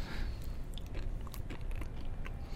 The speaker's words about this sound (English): For me, I think also when you're just chewing on the actual nib itself, you do get that bitterness in the beginning